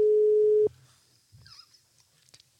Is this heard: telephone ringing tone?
yes